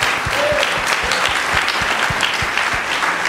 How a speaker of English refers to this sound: Let's give her a little round of applause there.